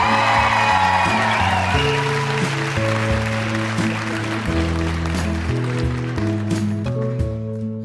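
An audience claps and whoops, the dense crackle of applause strongest in the first couple of seconds, while a loud band with a steady bass line plays underneath and carries on.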